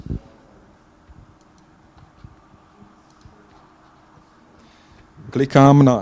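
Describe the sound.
Several soft, scattered computer mouse clicks, clicking on individual photos in a photo viewer in a web browser, tick faintly over low background hum, spaced irregularly, before a man's voice starts speaking loudly at the end.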